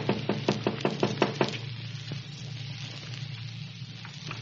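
A quick run of about eight sharp, hollow raps on a hotel room door, then silence except for a steady low hum; no one speaks.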